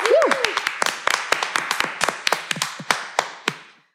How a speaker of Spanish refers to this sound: Un aplauso.